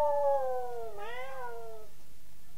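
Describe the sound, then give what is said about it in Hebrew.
A neighbourhood cat at a trash bin being emptied gives one long, drawn-out meow lasting about two seconds, its pitch sliding down, then bending upward in a wavering whine before trailing off into quiet. No one speaks. “ופעם, כשהלכתי עם אמא לרוקן פח אשפה, זינקו 10 חתולות מן השכונה, כאילו שמחלקים פה עוגה.”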